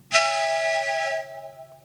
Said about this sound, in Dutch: Stoomfluit.